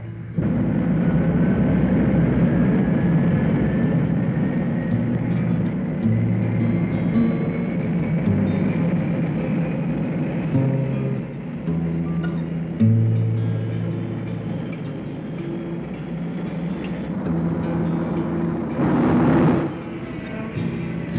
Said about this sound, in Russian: Ракета пошла по рельсам. Установка заряжена. Есть. Пуск.